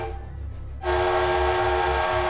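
A steam locomotive whistle bursts in after a low rumble and holds one loud, sustained, piercing tone, with a heavy train rumble underneath.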